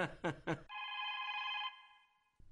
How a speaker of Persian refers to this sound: اینه باز زنگ آمد میمانی کمی تلفن رو جواب بتون یا نه؟ جواب بتون کی هست؟